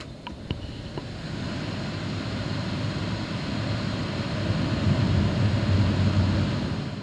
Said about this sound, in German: Jetzt ist die Lüftung an.